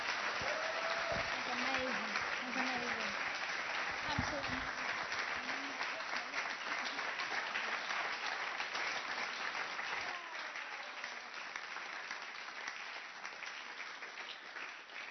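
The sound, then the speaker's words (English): Sustained applause from a church audience for a woman who shared her faith story, a dense steady clatter of many hands clapping that holds fairly loud for the whole stretch, easing only slightly toward the end, with a few voices faintly mixed in. “Why don't we give her a round of applause?”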